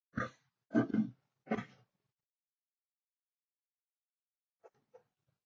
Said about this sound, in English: I'm going to clear my throat here.